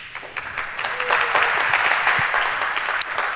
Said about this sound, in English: A big round of applause for her, please.